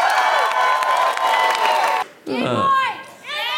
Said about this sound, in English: All right, let's get a round of applause as we go into our break. Thanks.